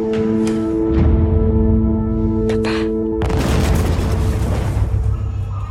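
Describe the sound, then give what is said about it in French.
Loud gunshots and booming explosions erupt in a dense battle soundscape during a hotel attack scene in the film Taj Mahal by Nicolas Saada, a few sharp blasts giving way to a sustained roar of overlapping fire over a steady low hum. “Ça pète partout ici, je sais pas quoi faire.”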